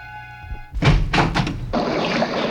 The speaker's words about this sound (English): I'll open the door and let the blood out.